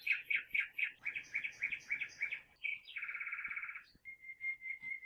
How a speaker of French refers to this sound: Ce n'est plus une voix timide qui prélude dans l'air humide sous les taillis. C'est une aubade universelle. On dirait que l'azur ruisselle de gazouillis.